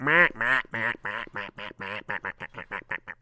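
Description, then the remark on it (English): A person imitates a duck, letting out a rapid string of about fifteen nasal quacks that start drawn-out and speed up into short, choppy bursts, loud. “I'm turning into a duck. Why? Because I don't like what's happening, so I'm just pretending that I'm a duck.”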